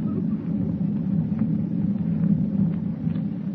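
Thunder rolls across the dark ocean in a deep, continuous low rumble that stays steady and fairly loud throughout, with no voices over it.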